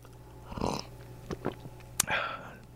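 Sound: sipping coffee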